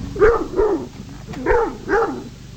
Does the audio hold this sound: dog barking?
yes